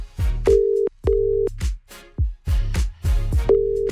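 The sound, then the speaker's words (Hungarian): A telephone ringing tone on an outgoing call placed to pass on a personal name-day greeting: short, steady electronic beeps repeating at regular intervals, fairly loud, with busier bursts of sound filling the gaps between them. “Reméljük, hogy felveszi a telefont.”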